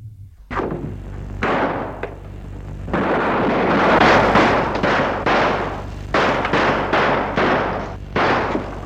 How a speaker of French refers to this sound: Il lui a tiré dessus, il est tombé raide, mort, balle en plein front.